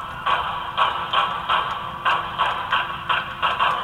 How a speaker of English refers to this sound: There was something else police noticed from the sound of the shots fired, and it took investigators by surprise. There's two different pitches of gunfire heard. Listen.